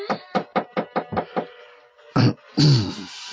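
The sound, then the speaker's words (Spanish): Seven quick knocks rap on a locked door in a steady rhythm, with no answer, followed after a pause by a heavier thud and a brief tonal, groaning sound. “Nadie, si no él le corresponde a su llamado.”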